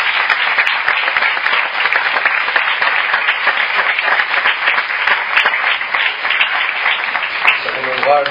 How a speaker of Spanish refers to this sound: Así que, si me permite, un fuerte aplauso para María Jesús.